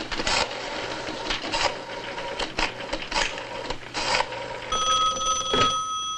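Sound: telephone ringing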